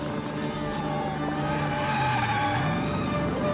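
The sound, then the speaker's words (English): A Jaguar car's engine roars steadily as it hurtles up a road, its pitch climbing toward the end as it accelerates, with a dense, loud rumble of road and motor noise throughout. “Matt peers myopically through the Jaguar's windscreen as he hurtles up the road.”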